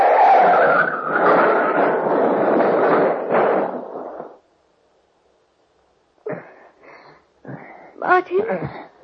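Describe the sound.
A loud, sustained car skid roars for about four seconds and cuts off abruptly as the car crashes into a ditch, turning over twice, followed by a brief silence and then voices talking.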